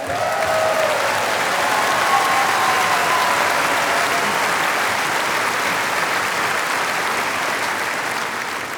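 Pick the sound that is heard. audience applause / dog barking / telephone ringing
audience applause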